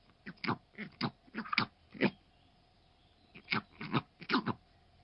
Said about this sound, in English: Meet the northern bald ibis. That's its mating call, and it looks about as ugly as it sounds.